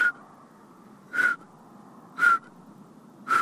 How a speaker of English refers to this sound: We had just barely gotten out of the car when we heard the solitaire sing its one-note song. Its call note is sort of a...